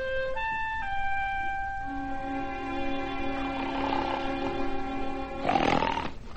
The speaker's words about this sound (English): When we assembled at his bedside at 7 o'clock the next morning, he was snoring like a buzzsaw.